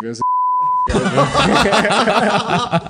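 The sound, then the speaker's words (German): A single steady, high-pitched censor bleep, about two-thirds of a second long, cuts over a spoken name, then animated talking and chuckling from several people in German follows. “Wir müssen so viel piepen hier.”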